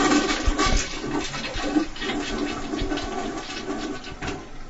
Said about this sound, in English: He points to the toilet where the water is murky yellowish color. So that's just, on a regular day, it's just going to look It's yellowish. Been such a while. Yeah. But I'll flush it.